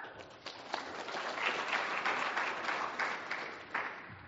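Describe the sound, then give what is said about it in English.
An audience applauds steadily for about four seconds to welcome the presenter of a talk on beef cattle breeding decisions, from Tarleton State University. A dense patter of many hands clapping at once, with a few sharper claps standing out, at moderate loudness and with no voices. “Please join me in welcoming him.”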